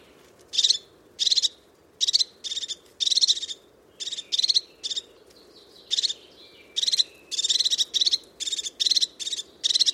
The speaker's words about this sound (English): The call of the crested tit, very sharp, very precise. And such incredible little birds.